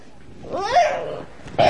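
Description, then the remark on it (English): A child's voice imitates a cat with a single drawn-out meow that rises and falls in pitch, fairly loud, followed by a brief burst of noise at the end. “…, can you say coincidence? Meow.”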